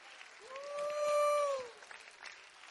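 A worshipping audience, called on to clap their hands and lift up their voices, claps steadily throughout, a dense wash of hands, while a single voice rises in a long sustained whoop over the middle of the applause.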